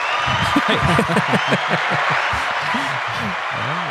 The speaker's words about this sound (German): Das ist irgendwie mal ein Applaus wert oder irgendwie sowas.